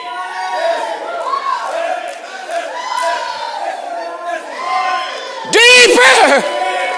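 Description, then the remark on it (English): An audience shouts and cries out together in a loud, overlapping roar of many voices, with a sharp burst of high, wavering whoops near the end. “Some of you haven't ever shouted before, but you're shouting now.”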